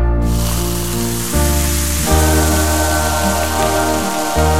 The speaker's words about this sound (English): Somebody put out the fire. It's gonna, hold on. Let me open some Coke and I'll pour it on the fire.